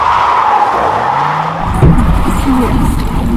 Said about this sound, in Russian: Водители несутся на всех парах, хотят успеть сделать еще один рейс в час пик. Но нас подрезают, резко по тормозам.